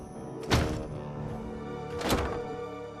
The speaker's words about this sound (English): The door and windows slam shut.